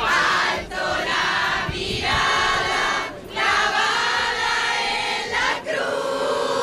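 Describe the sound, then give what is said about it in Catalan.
A large crowd of faithful, waving flags outside the Almudena cathedral while waiting for the Pope, sings hymns together loudly in sustained, overlapping voices, with a few brief breaks between phrases before the singing swells again. “Mentrestant, al davant, a la catedral de l'Almudena, hi ha una multitud de fidels que l'espera, amb onejant banderes i cantant himnes.”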